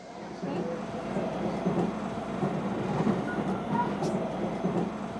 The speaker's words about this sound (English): We're on the train, finally on our way to meet Joe.